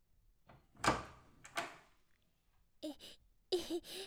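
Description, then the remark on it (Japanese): A door opens with two sharp clunks a moment apart, followed by a pair of short breathy vocal sounds like gasps, with no words spoken. “そしたら扉を開けてください。”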